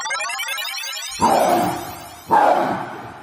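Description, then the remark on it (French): Two loud, throaty roars from a tiger, each rising suddenly and trailing off over a second, the second following shortly after the first, with a faint hiss in the background. “Tu entends ce tigre-là ?”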